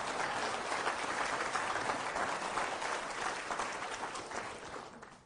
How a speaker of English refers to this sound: I would gladly receive that applause if I had done something. But we know who deserves it all.